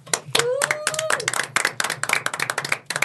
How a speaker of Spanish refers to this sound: Entonces, chicos, también un grande aplauso para nuestros padres, por favor.